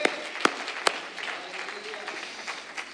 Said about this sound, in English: Can we clap our hands for the truth tonight? Praise God.